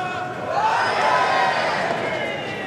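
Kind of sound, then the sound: crowd, tennis crowd cheering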